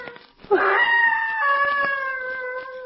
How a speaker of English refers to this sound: That be the screech owl again? That cry sounded human. It's like a scream of mortal terror.